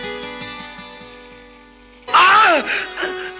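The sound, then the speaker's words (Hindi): After a low, steady hum, a person who has just been bitten suddenly lets out loud, strained cries of pain, a sharp wavering yelp followed by a shorter pained groan. “लगी है तो दुखेगा भी, इतना चिल्लाते क्या हो।”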